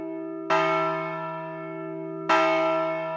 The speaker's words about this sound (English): From there, Tomlin and Adjutant General James Hoyer led a procession across the complex to ring the ceremonial bell in the North Plaza.